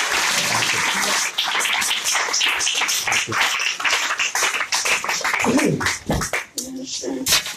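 A crowd applauds loudly and steadily, dense overlapping claps filling the room, with a few voices calling out near the end.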